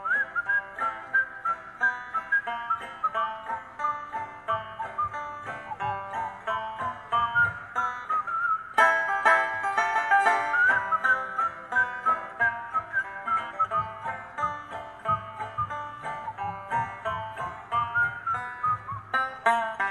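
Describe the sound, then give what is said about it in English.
Several people whistle a tune together over a steady instrumental backing, the shrill melody carrying continuously and fairly loud from start to finish with no talking. “Anybody know how to whistle?”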